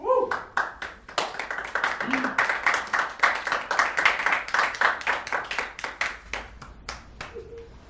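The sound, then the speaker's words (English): An audience claps steadily for about eight seconds, a brisk run of sharp, overlapping hand claps at even loudness, with a few short vocal sounds mixed in. “The crowd goes wild.”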